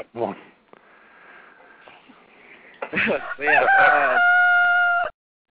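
A rooster crows one long, loud crow, rising then holding a steady strained note before cutting off. Faint, muffled background sounds come before it.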